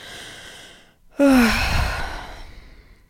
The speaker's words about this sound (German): Die Schilder kommen näher, die Kilometer werden weniger nach Hamburg und dein Atem wird immer schneller. Zwischendurch musst du richtig schwer atmen.